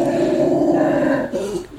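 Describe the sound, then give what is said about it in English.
Dogs growl at each other, a low, steady, rumbling snarl held for over a second before it breaks and shifts briefly at the end. No one speaks. “My dogs growl at each other.”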